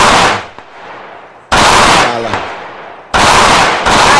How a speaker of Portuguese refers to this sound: Atenção, ei, você tá ouvindo, é tiroteio registrado numa comunidade de João Pessoa.